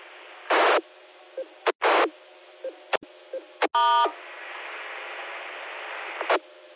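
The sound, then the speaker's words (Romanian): A radio transceiver's steady hiss carries a handful of brief electronic tone bursts, with one buzzier, harmonic tone near the middle, all loud, with no one speaking. “Da, da, da, o am aici, e lângă mine. Un pic, un de ăla de un ton.”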